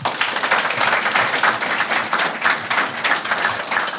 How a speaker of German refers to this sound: Applaus dafür nochmal an die Leute, die irgendwie Dinge getan haben.